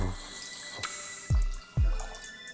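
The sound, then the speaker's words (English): A little clear, light straw-coloured wine is poured into a glass just after the cork is slid out, with a steady liquid trickle broken by two deep, hollow glugs from the bottle, and no one talking. “and we slide it slowly out without a problem. So there you go. So let's pour a little.”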